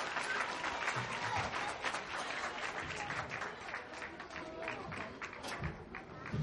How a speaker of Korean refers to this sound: 네, 땀 흘린 우리 친구들에게 다시 한 번만 큰 박수 부탁드립니다.